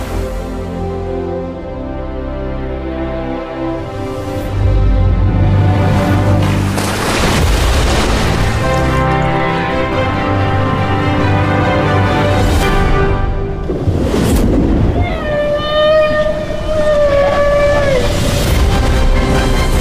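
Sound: whale vocalizations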